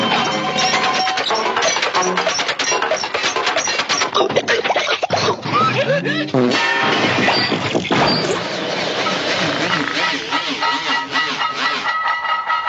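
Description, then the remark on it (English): A loud crash sound effect, played for starting up the Truth Social app: a long, dense pile-up of clattering metal, banging and ringing tones, trailing into a wobbling, spinning rattle like a hubcap rolling to a stop. No voices. “It's that last hubcap that gets me.”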